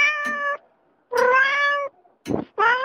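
A cat meows three times, loud, drawn-out cries with a short huff or breathy sound between the last two. No one speaks.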